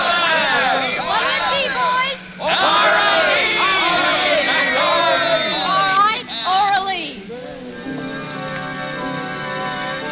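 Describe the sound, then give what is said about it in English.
Loud crowd chatter in a bar, many overlapping voices talking and calling out at once in a dense, continuous babble that thins out somewhat over the last few seconds. “Wait till this crowd leaves before you slip it to him.”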